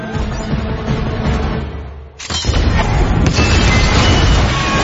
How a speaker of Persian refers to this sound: آماده انفجار.